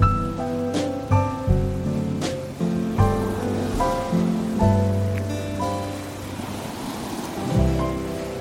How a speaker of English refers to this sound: Well, it's time to say farewell to Penberth Cove. As you can hear, the waves are a bit more lively now, the wind's picked up, and it's time to head back home.